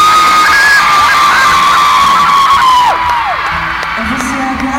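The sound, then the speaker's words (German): A loud concert crowd on a band's tour roars and cheers, with high sustained whoops and yells rising over a dense wash of noise that eases slightly toward the end. “Und jeden Abend seid ihr so laut für uns. Ihr gebt uns so viel Applaus.”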